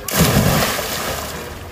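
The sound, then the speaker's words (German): A person does a cannonball jump into water: a heavy splash as the body plunges in, a sudden loud whoosh followed by churning, sloshing water that slowly settles over about a second and a half. “Dann mach dein Ding, ich geh ins Wasser. Ist mir egal, jetzt. Ich geh Arschbomb.”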